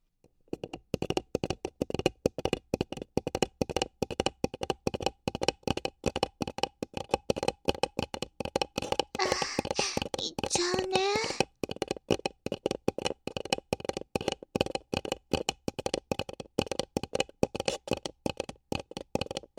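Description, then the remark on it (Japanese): Rapid rubbing and tapping on a paper cup, a dense run of quick papery strokes that keeps going steadily for the whole stretch, with a brief brighter scrape partway through. “紙コップで感じる変態さんになっちゃったね。”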